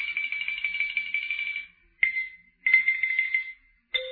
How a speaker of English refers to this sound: Well, there's got to be some legal way to kill xylophone players.